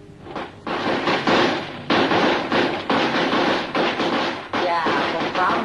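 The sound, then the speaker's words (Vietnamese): A loud string of firecrackers set off for Tet goes off in rapid, dense bursts of sharp cracks and pops, nearly continuous for several seconds with only brief gaps between volleys. “Quá ta đó nổ như vậy nghe mới đã tai chứ.”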